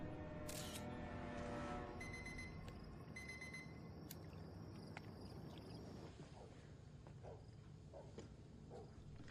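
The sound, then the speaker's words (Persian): Rapid camera shutter clicks fire in quick bursts as photos are taken, sharp, over a busy background hum with faint chatter. “واسه دوربین بخند”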